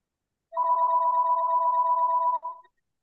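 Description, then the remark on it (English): A single burst of a home landline telephone ringing, a steady electronic two-tone trill lasting about two seconds, clear, with no voices. “No, it's my that's my home phone, but I'm ignoring it.”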